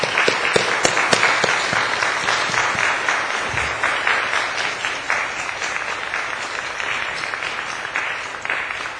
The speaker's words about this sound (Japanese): それでは拍手を持って、カセバ先生を講談にお迎えいたしましょう。